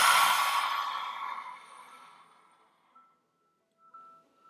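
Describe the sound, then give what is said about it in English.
A single loud, forceful open-mouthed lion's breath exhale with the jaw fully open, a breathy rush of air that starts strong and fades out over about two seconds, followed by near silence with faint tonal hum. “Exhale, lion's breath. Let your jaw fully open on those exhales.”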